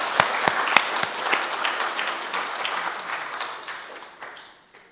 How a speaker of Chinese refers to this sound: 所以我们再来鼓掌，荣耀归给神，也谢谢诗班的弟兄姐妹。